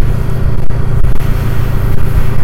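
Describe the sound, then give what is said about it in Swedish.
Steady, loud rumble of a motorcycle moving at speed, about 70, on a road through open areas, with heavy wind buffeting roaring over the engine drone throughout. No voices. “Åh, hej, här blir det lite knöligt så, men lite öppna ytor, det är därför det blåser så pass.”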